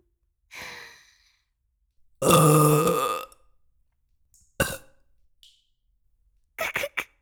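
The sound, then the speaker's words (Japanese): A long, loud, throaty burp sounds very close to the ear from someone pressed up against the listener, preceded by a breathy sigh and followed by a couple of short sharp bursts, with no talking. “こうやってお主に密着してるとゲップがしやすくて助かるの。”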